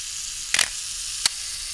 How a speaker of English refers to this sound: Wind up, cock the timer, release, and then run out in front of the camera. And here we go, 10 seconds later.